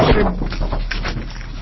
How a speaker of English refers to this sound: Someone whacked the microphone with all the paperwork, oh.